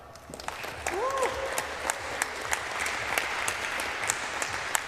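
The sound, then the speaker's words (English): An audience claps steadily in sustained applause to welcome a speaker before a talk on hardware security, a dense patter of many hands, with a brief faint voice or whoop near the start. “give a warm round of applause for Johannes”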